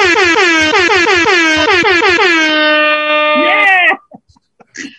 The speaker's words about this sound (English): Nobody has ever used an air horn and said Mr. Cunningham at the same time.